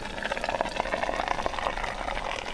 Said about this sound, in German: Ein anderer Tipp, da habe ich auch ausprobiert, ich habe meinem Auto einfach eine Wärmflasche gemacht. So, dann fülle ich mal das Wasser in die Wärmflasche.